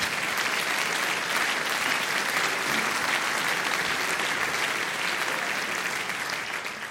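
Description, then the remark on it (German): Sustained applause from a sizable audience, a dense steady wash of clapping that holds at full strength for several seconds before easing slightly at the end, with no one speaking over it. “Ja, bitte, ich will das nicht unterbrechen, wenn ihr klatscht.”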